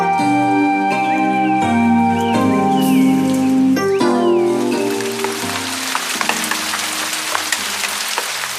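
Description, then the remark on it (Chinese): Heavy rain falls in the middle of the night, patting on roof tiles in a dense, steady hiss sprinkled with sharp individual drops, rising to fill the scene as soft sustained music fades out in the first half. “半夜里下了一阵大雨，雨点敲在屋瓦上乒铃乓啷的。”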